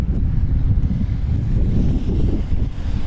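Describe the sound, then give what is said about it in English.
Loud, continuous rumbling buffets of wind battering a microphone outdoors on a windy morning, during a wind test as a bicycle is lifted by its top tube and blown by the gusts; a dense low roar that surges and dips throughout with no voices. “Oh, you're doing the wind test.”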